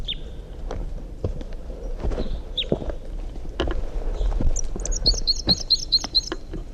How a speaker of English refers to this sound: Wild bird song phrase.